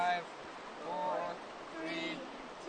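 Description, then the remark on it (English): Flowing river water rushes steadily in a continuous wash of sound as students stand stooped in the middle of a river, agitating the rocks for 3 minutes to wash bugs into a net held just downstream, while muffled voices briefly rise over it a couple of times. “has to agitate the rocks for 3 minutes, which is a very long time when you're stooped over in the middle of a river.”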